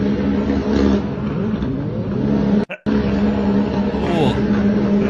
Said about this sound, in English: I mean, it's definitely not an F1 car, but it's some kind of open wheel racer. Yeah, yeah, definitely.